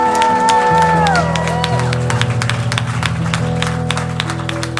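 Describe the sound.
A church audience claps loudly and steadily throughout in response to a reading of Psalm 47 before praise, while voices shout and whoop over the applause, with a sustained cry early on that slides down in pitch.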